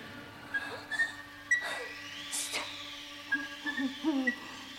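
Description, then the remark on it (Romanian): A bird hoots several times in short, uneven bursts against a steady low hum, the calls moderately loud, with no one speaking. “Pasăre urâtă! Moțlețos!”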